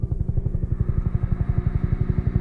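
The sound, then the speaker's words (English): A helicopter's rotor chops in a fast, steady thumping rhythm, a deep pulsing beat that stays loud and constant throughout, with no voices. “She says, as soon as I hear helicopters, I fall back into that nightmare.”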